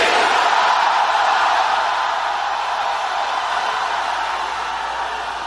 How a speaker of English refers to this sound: When you come face to face with death, you will know how to shout. Let me hear you shout Jesus again.